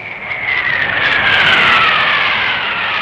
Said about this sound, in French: Allez, hop, c'est le jet.